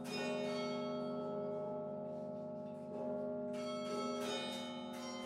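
Tower bells played by a performer at the top of Burton Tower at U of M ring out in a sustained, layered musical passage, many tones overlapping as new strikes land every second or so, loud and resonant with no voices.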